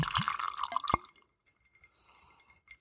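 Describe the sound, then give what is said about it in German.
Liquor splashes and gurgles briefly into a glass, a short bright pour lasting about a second with a few clinks and drips, then quiet. “Dann gieß mal ein und schauen.”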